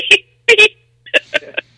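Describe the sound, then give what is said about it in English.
A voice imitates an Amazon delivery truck horn arriving at a house with two sharp, nasal beeps, followed by a few shorter, choppier honk-like vocal bursts. “When Amazon comes to my house, I hear beep beep.”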